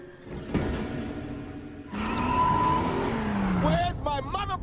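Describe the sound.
A car engine revs up loudly, its pitch sliding as the car drives off, with muffled voices briefly audible near the end.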